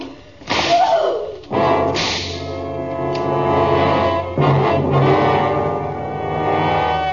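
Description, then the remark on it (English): Three sharp lashing cracks of a whip land a second or more apart, loud, over sustained dramatic orchestral music that keeps playing between the strikes. “No use, whip.”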